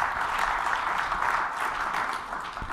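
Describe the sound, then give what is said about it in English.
A crowd applauds the pastor steadily as he comes on stage, a dense, even patter of many hands clapping at once with no pauses, holding at a fairly loud level throughout before easing slightly at the end. “These guys just clap all the time, don't they?”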